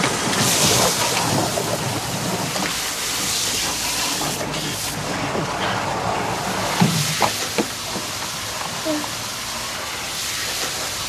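Strong water gushes steadily from a tap into two plastic jerrycans as a woman fills them, splashing her, a loud rushing hiss that fills the whole stretch, with a few brief knocks and clunks near the end.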